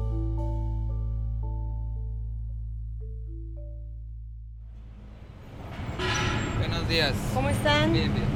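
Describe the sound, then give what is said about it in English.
Steady tonal music gives way to a dense outdoor wash of traffic rumble at the San Ysidro border crossing between Tijuana and San Diego, with lines of cars and pedestrians; indistinct voices and shouts rise over the busy, continuous noise. “The San Ysidro border crossing between Tijuana and San Diego is the world's busiest.”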